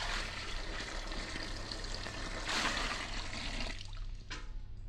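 A steady rush of water pours into a container for several seconds, swelling briefly midway before trailing off into a few splashy gurgles. No one speaks.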